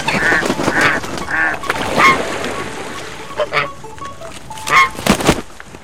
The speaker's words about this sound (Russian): На лугу паслись гуси. Да не простые серые, а почти лебеди. Белые, красивые, шеи длинные.